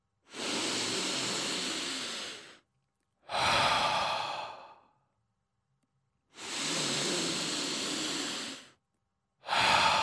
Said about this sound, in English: Like, really deep breaths. In through the nose, out through the mouth. Just 3 of those.